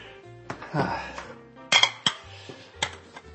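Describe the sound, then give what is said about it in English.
Dirty dishes clink and clatter together as they're carried to the kitchen, a string of sharp ceramic knocks at an uneven pace, moderately loud, with a low background hum and no talking. “Then I can take all the dirty dishes to the kitchen.”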